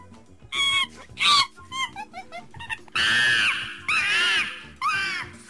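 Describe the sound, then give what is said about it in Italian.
A monkey screech sound effect: quick, chattering yelps build into three loud, harsh, drawn-out screeches with a rising and falling pitch, with no voices over them. “E sentiamo la scimmia.”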